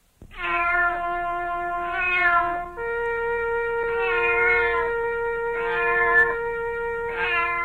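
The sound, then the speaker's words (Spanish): A trumpet blown badly, holding long, strained notes that swell into shrill, squealing bursts every second or so, loud with no talking. “A ver, sargento, por favor, permítame la trompeta para tocarla ahora yo.”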